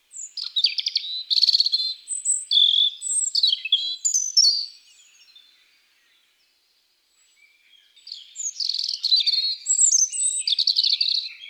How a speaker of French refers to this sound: Le rouge-gorge improvise dans les aigus.